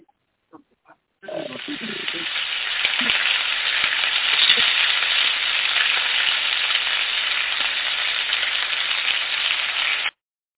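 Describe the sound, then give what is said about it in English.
A few faint clicks, then a loud, steady crackling sizzle of food dropped into hot frying grease starts abruptly and holds for about nine seconds before cutting off sharply. “Drop Jesse in the grease.”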